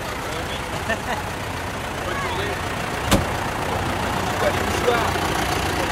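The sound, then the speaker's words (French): A column of some 400 tractors starting up and running: engines rumble and idle in a steady, dense drone, with a sharp knock partway through and indistinct voices murmuring in the background. “Et les tracteurs se mettent en marche, c'est la colonne des tracteurs.”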